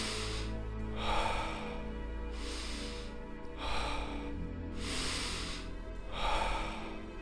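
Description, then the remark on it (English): Steady, unhurried, peaceful breathing during a breathing exercise, with soft airy inhales and exhales alternating in an even rhythm over a low background hum, no voices. “Peaceful breathing.”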